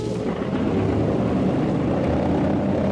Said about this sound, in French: Les moteurs sont lancés. Et l'avion, pivotant tout doucement sur lui-même, roule lentement d'abord, accélère ensuite et disparaît rapidement dans la nuit.